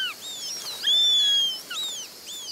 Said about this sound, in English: As you traverse the animated ecosystem, listen for the calls of over 50 birds, like the Eurasian sparrowhawk.